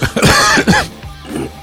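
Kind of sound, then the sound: human body sound, smoker's cough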